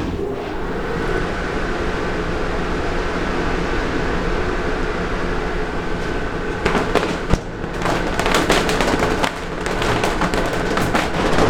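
Sanded felt hat bodies are beaten to remove the dust left on them by sanding: a steady mechanical rumble runs throughout, joined partway by bursts of sharp, irregular slaps and cracks, with no voices.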